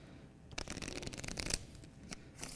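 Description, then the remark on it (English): A deck of playing cards being shuffled for a magic trick, a quick run of crisp riffling snaps and flutters with a few sharper slaps, no voices over it. “So now I will shuffle them.”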